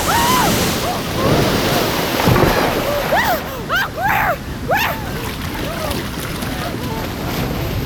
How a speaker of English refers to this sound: Clara, watch out, the water's surging.